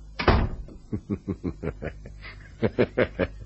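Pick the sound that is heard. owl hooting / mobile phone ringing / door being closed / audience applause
door being closed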